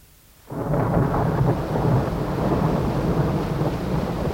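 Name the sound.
rain with distant thunder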